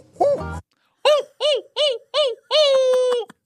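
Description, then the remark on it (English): A person imitates a hoot owl call, trying out calls while looking for Sasquatch: after a brief throaty sound, four short, evenly spaced hoots ring out, then a final long, drawn-out hoot, loud and with no other sounds. “One thing I love doing when I'm looking for squatch is trying out new calls.”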